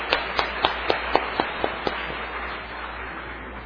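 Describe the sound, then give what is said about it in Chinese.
A church audience breaks into applause to encourage its co-workers, a few sharp, distinct claps standing out at first before it settles into a steady, dense wash of clapping from many hands, with no talking. “佮一边咱个掌声，甲伊鼓励，甲伊肯定，因个辛苦。”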